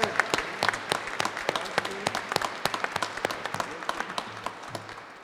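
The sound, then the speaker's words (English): Audience applause for a church men's choir after a song: many hands clapping in a steady, dense patter of sharp claps that holds for several seconds, with no talking over it. “How about a round of applause for our men's choir?”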